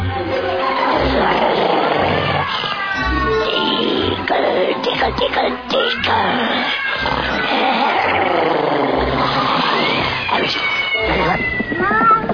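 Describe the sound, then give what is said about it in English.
A cat named Kopeck meows and yowls over and over, loud, its cries rising and falling across the whole stretch above a low, steady rumble. “Kopeck, you stop that, you bad kitty.”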